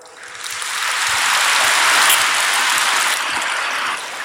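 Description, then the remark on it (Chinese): An audience breaks into applause, a dense wash of many hands clapping that swells within the first second, holds steady and fairly loud, then begins tapering off at the end. No voices are heard. “鼓掌的人有一半没听懂，所以师父只能给你们稍加解释”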